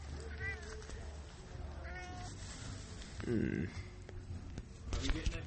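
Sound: cat meowing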